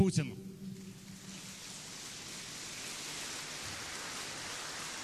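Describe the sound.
A large crowd at a forum gives a huge standing ovation for the president of the Russian Federation, dense sustained applause that fills the space as a steady roar of clapping, following a brief voice at the very start.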